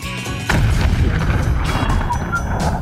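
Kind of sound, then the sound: sound effect, explosion sound effect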